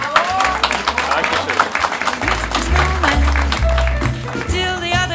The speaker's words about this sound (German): Und dafür wirklich vielen, vielen Dank und einen herzlichen Applaus